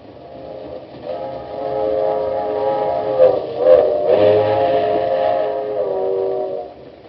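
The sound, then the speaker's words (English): A moving passenger train headed back to Washington, with a long, sustained whistle chord sounding over a steady low rumble, fairly loud, swelling in the middle before trailing off at the end. “You tell the conductor to take this train straight back to Washington.”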